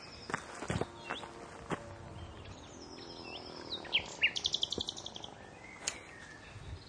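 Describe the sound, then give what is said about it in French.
A bird sings from close by in low bushes, a bright series of rapid, high chirps and trills, with soft rustling and a few footstep-like thumps underneath. No one talks. “Probablement à gauche de... du boulot, là, quelque part dans les buissons. Il est pas loin. Là, vous l'entendez bien.”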